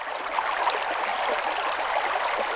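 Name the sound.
flowing river water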